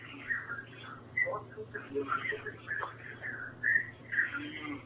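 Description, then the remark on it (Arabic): Muffled television sound with indistinct voices drifts in the background of a caller's narrow, tinny telephone line during a call-in program, steady and continuous over a low constant hum. “نوطي صوت التلفزيون بعد اذنك وكلمي من التليفون.”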